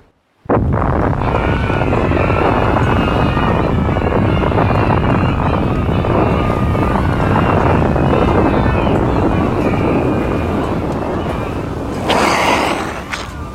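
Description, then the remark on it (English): An explosion from an atomic engine overload destroying an octopoid lair is sucked into a massive whirlpool: a sudden blast flows straight into a loud, continuous churning roar of rushing water, sustained for over ten seconds before a brief hissing swell near the end. “The octopoid lair has been destroyed! But the explosion was sucked away into a massive whirlpool!”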